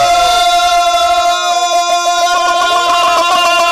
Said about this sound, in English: So let's do that. Next 3 seconds, we all scream together.